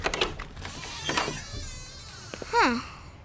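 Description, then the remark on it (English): A short, squeaky creak of a door with a peephole swinging open rises and bends in pitch near the end, following a few soft knocks and shuffling handling noises. “Mom says to check the peek hole before opening the door.”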